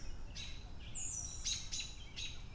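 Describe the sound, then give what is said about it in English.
Several birds chirp and chatter in quick, high bursts over a steady low background rumble, the calls overlapping, with no voices present. “There's a lot of bird chatter.”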